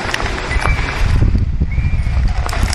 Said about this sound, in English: You can hear the swings creaking.